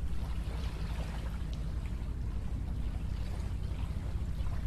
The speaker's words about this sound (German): Ich weiß nicht, ob ihr es hören könnt, aber das Wasser plätschert, die Wellen, die winzig kleinen Wellen laufen hier am Ufer auf. Ja. Wir sind an einem der schönsten Orte Kölns, würde ich mal behaupten. Endlich, wir sind in Rodenkirchen angekommen.